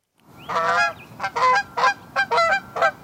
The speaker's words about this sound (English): There are lots of geese at this regional park along the Columbia River outside Portland, so rangers weren't surprised when they found a Canada goose nesting near some picnic benches.